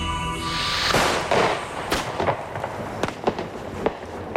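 New Year's Eve fireworks and firecrackers bang repeatedly at irregular intervals, sharp cracks popping over a steady crackling, whistling rumble, some bursts louder, others quieter.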